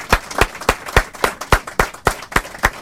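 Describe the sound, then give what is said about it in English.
An audience claps at a steady, even pace, about ten sharp claps in under three seconds, fairly loud, with no talking over it, applauding two poets after an evening poetry reading. “Why don't we give another round of applause to Ted and Bruce for the lovely reading that they gave tonight.”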